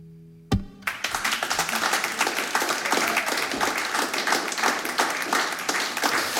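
A sharp thump opens into sustained, dense applause from a sizable audience after a live song, many hands clapping steadily and loudly for several seconds with no voices standing out.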